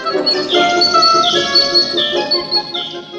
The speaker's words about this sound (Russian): Вдруг, откуда ни возьмись, на поляне еще две птички появились. Маленькие, ростом с воробья. А шуму-то шуму. Пищат, друг на друга наскакивают, клюются, щипаются, не щадят своих нарядных перьев. Настоящая битва.